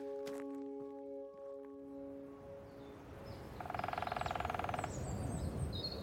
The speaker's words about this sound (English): So that woodpecker could be really far away, but it just sounds so close how loud it is. Yeah, it's almost that sort of dip in the ground there. It's almost like it's sort of somehow amplifying the sound, I think.